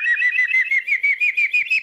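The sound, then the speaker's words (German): A man, a farmer from Palling in Bavaria, Germany, and European bird-call imitation champion, whistles an imitation of a common kestrel's call: a rapid, even series of about eight or nine shrill, piercing notes, fairly loud, with no other sounds. “Oder den Turmfalken.”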